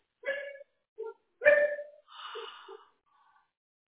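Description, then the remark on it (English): A few deep, loud barks from big dogs, a male just over a year old of about 80 pounds and a young female, in an uneven burst, a couple of strong woofs mixed with shorter, softer yelps, then quiet. “You would think you have some big old dogs with those barks.”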